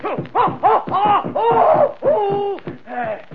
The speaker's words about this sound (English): I'm happy. Let me see you pound the mat and scream. Now, go ahead and do it.